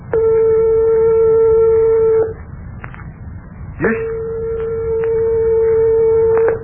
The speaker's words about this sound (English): Here are two tones only 1/8 of a tone apart, or 1/4 of the distance of separation from the closest tones of your piano.